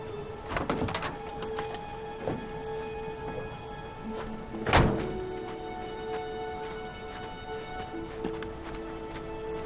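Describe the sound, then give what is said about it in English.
A man loads a typewriter onto his own truck at a tree lot: a few sharp knocks and clunks, one louder thud midway, over a steady low hum, with no voices. “Kevin is loading a typewriter onto his own truck.”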